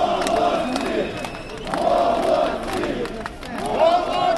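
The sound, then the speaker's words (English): A large crowd of anti-government protesters in the main square of Kiev, Ukraine, cheers and chants in a steady, swelling roar at the arrival of a group of police who do not support the president, with rhythmic surges of many voices shouting together roughly every second and a half. “There was already a sense of optimism among anti-government protesters cheering the arrival of a group of police who do not support the president.”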